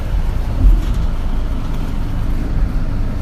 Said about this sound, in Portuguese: Já estamos a caminho então, o autocarro acaba de arrancar, rumo então à ponte? Exatamente, a Hong Kong.